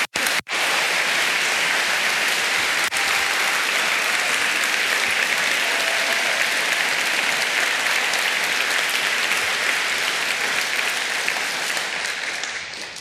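A large audience claps loudly and steadily for about twelve seconds, a dense, continuous wash of applause that starts abruptly and tapers slightly at the very end.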